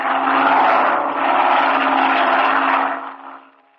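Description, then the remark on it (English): A black propeller airplane flying directly toward the listener drones loudly, a steady rumbling engine roar with a low hum underneath, holding for about three seconds before quickly fading away. No one speaks. “It's a plane, Chuck.”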